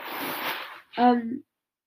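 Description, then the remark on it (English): A soft, hissy rustle of a beanbag chair shifting under the weight of a person sitting in it lasts under a second, followed by a brief voiced vocal sound. “Also, if you hear me rustling like this, that's just my beanbag, because I'm sitting in a very comfortable beanbag.”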